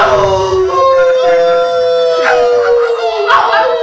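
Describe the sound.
An audience howls together in imitation of wolves in a group howl at a band's show, led by a special guest, with long sustained wails sliding slowly downward and overlapping, loud, filling the whole stretch without pause.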